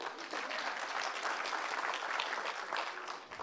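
A crowd applauds steadily for an audience member chosen as mock mayor, a dense, continuous patter of many hands clapping at once, sustained and fairly loud throughout with no pauses.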